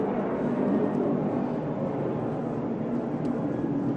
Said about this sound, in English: Sorry. Good old airplane.